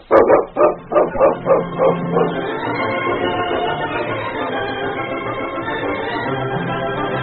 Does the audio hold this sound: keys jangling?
no